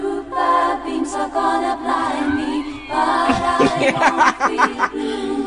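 A pop song plays at steady volume, with sustained, layered sung voices in harmony over the backing, and busier percussive accents in the second half.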